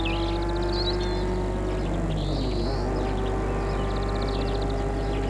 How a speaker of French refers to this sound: La voiture file sur le chemin de gravier.